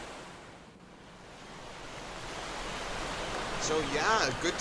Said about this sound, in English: Great waterfall room right by a waterfall, which is why it's called a waterfall room.